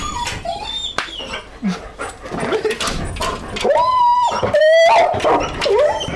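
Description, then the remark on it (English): A dog whines and whimpers in rising, high-pitched cries, breaking into short yips and barks, with a long drawn-out whine near the end and some human voices underneath. “Shut up, dog!”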